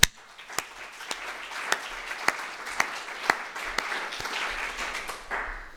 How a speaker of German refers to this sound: Vielen Dank für den Lobpreis. Die haben sich, glaube ich, einen kleinen Applaus verdient.